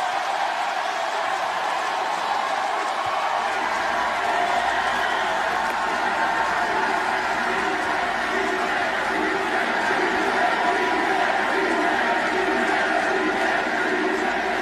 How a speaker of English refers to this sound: Crowd loves it. The crowd went wild. This is history. The word gay apparently has never been spoken in a wrestling ring on national TV.